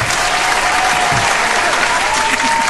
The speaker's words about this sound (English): Thanks nice for the applause.